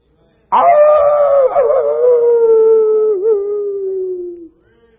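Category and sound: animal, wolf howling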